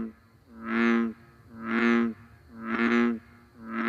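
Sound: bullfrog croaking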